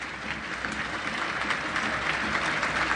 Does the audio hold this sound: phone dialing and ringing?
no